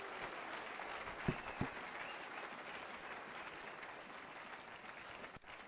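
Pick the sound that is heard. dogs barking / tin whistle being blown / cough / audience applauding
audience applauding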